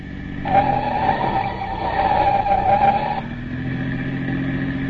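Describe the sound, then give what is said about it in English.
A police car's engine roars at speed with the accelerator floored while tires squeal loudly through a left turn for about three seconds, then the squeal cuts off and the steady engine drone carries on. “I've had the accelerator pushed clear down to the floor ever since we left.”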